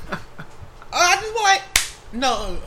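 A single sharp slap of a hand against a leg at the knee lands between stretches of voiced, sing-song vocalizing from people, with a couple of softer taps early on.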